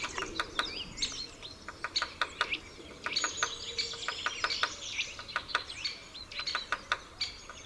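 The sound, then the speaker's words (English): Sharp, irregular tapping of a woodpecker's beak pecking against wood, in scattered bursts of knocks, with busy bird chirps and twitters all around in an outdoor setting. “Its beak's patter against the wood is heard at great distances away.”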